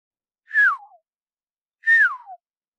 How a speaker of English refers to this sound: And it turns out there's sometimes a difference between bird song. And bird calls.